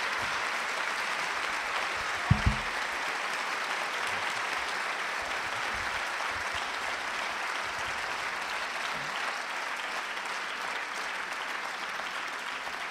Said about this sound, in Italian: Ringrazio tantissimo naturalmente Umberto Galimberti, a cui diamo un altro applauso perché è stato grandioso. Grazie.